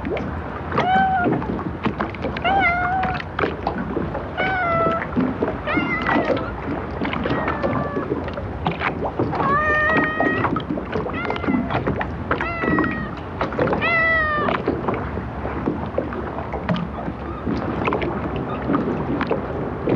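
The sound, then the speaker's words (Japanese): A fluffy, Persian-like stray cat meows again and again in short, bright cries at Takeura fishing port in Kanagawa town, over a steady bed of outdoor wind and water noise with no one speaking. “ペルシャのようなモフモフの野良猫が早速お出迎えです。”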